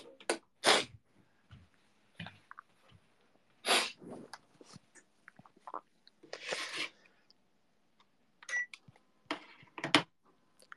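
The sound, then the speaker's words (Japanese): Several short, sharp sneezes burst out, scattered irregularly among quieter rustles and clicks, with no talking. “くしゃみ助かるアンチだったんでござるが、分かった気がする。”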